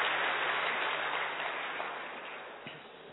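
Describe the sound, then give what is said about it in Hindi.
An audience claps together in a dense, steady burst of applause that holds for a few seconds and slowly tapers off, with no voices over it. “हाँ, तो उनके लिए तो आप ताली बजा दो।”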